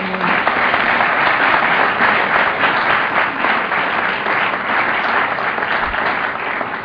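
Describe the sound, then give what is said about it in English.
A crowd at a conference applauds the volunteers steadily for several seconds, a dense, even wash of many hands clapping at a constant loud level with no voices breaking through. “A round of applause for these people.”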